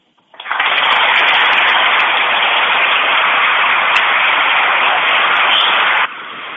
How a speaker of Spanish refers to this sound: Pues impresionante cómo suena ese aplauso a Maite Martínez, que yo creo que también teníamos que respetar y tenía que sonar hoy en directo Marca Valladolid.